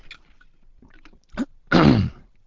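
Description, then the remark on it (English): Quiet mouth and lip noises, a brief slurp, then a louder breathy swallow and exhale as someone takes a quick sip of water. No talking. “I'm going to have a quick sip of water.”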